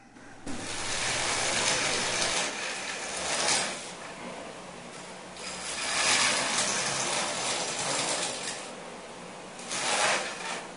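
A saw grinding through dry ice makes a harsh, hissing rasp that runs continuously and swells in several loud surges, with a gritty, ratcheting texture and no voices.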